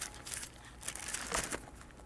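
Soft paper rustling and crinkling in a few quick bursts over about two seconds, as a small piece of paper is placed to mark a page at Genesis 1:1 in a Bible, with no voices.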